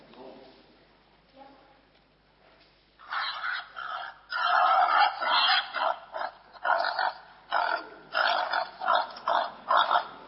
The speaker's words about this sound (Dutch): Wat is dat voor geluid? Een kikker. Het lijkt ook wel een kikker. Wie dacht wat anders? Een leeuw. Een varken. Een big. Oh, het was een varken. Een wild varken, wild zwijn.